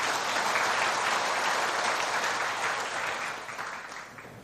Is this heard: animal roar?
no